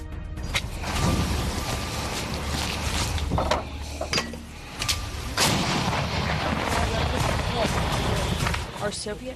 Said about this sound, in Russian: вот так украинские боевики покидают город, при этом взрывая с собой многоэтажные дома